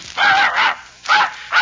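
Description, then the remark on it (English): A blue-eyed dog called Blue Eyes barks in a quick series of four sharp, loud yaps with brief pauses between them, with no one talking. “You sure you don't want that blue-eyed dog?”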